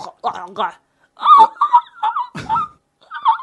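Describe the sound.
A voice mimics a person eating like a seagull or pelican: a string of short, squawky, honking vocal bursts with gulping breaks between them, fairly loud.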